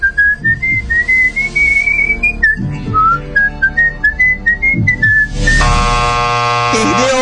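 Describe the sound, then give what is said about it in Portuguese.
A person whistles the national anthem as a 15-second game challenge, a clear and fairly loud melody of stepping notes for about five seconds. A loud, harsh buzzer-like tone then cuts in and ends it. “Você tem 15 segundos para assobiar o hino nacional.”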